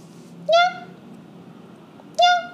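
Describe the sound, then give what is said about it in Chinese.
A leopard on a grassland lets out two short, rising, meow-like calls, each clear, spaced well apart over a faint low background rumble. “是猫科，对、但是就确实是豹子。”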